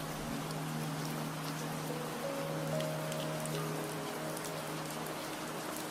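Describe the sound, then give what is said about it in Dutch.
Soft raindrops patter steadily against window glass and the roof of a small house in the mountains, with scattered light ticks over a constant wash of rain and a faint low hum underneath. No one speaks. “En je hoort het getik en getok van de regendruppels die zachtjes tegen het glas tikken.”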